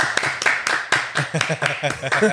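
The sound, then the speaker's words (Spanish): Hands clap in a steady, fairly quick rhythm, a dozen or so sharp claps, with voices chattering and laughing underneath. “Y, estamos aplaudiendo.”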